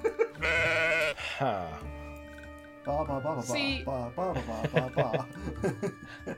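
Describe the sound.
A person's voice mimics a sheep with a long, wavering bleat, followed by a few shorter, choppier bleating sounds that trail into chuckling.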